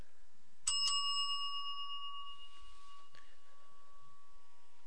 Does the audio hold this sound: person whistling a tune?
no